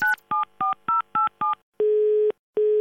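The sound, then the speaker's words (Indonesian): Six quick, evenly spaced touch-tone beeps of a phone being dialed, followed by two longer steady ringback tones, all clear with no talking. “Telepon orang sampai pusing.”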